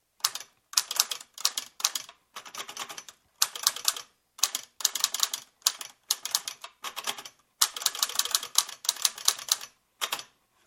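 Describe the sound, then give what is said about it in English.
Keys on a mechanical keyboard machine with a smooth metal front panel clack sharply in quick bursts, irregular clusters of rapid presses of random keys separated by brief pauses, with no one speaking. “And so here we go. I'll just press any old keys.”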